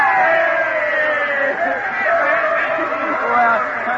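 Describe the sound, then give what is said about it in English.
A large crowd of young voices at a student rally on a campus cheers for their team the evening before a baseball game, in a loud, sustained roar that holds steady for about four seconds, with overlapping shouts rising and falling slightly. “All right, gang, one last cheer, a brackety X for the team.”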